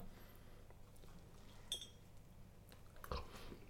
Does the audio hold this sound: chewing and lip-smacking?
yes